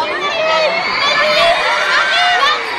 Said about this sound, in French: Car la foule est impressionnante, les fans hystériques, certaines fondent en larmes.